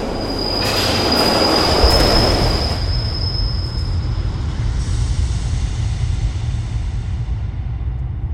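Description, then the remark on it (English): A train rushes into a station, its wheels letting out a sustained high-pitched squeal over a heavy rumbling roar that swells in the first few seconds and then continues steadily. “Then, just as the train is about to burst into the station, a sudden, gut-wrenching shove in the middle of your back sends you flying out onto the tracks in front of the oncoming train.”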